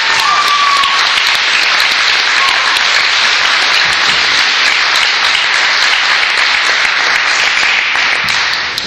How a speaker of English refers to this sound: It took a lot of hard work and dedication to pull this social forum together. And can we give a round of applause to the organizers? They did it.